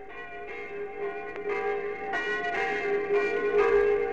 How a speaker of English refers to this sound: The curé of this little Normandy church, 2 or 3 miles from Caen, wants me to say how sorry he is about these bells.